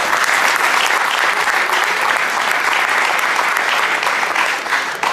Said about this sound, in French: On peut l'applaudir, oui.